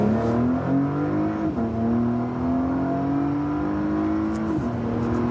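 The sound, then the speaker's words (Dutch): The V6 engine of a Porsche Panamera plug-in hybrid car revs steadily upward, its pitch climbing, then dipping briefly at two gear changes before rising again. The engine is loud, with no voices. “Ja, als die batterijen uitgaan... Dan heb je gewoon lekker een V6.”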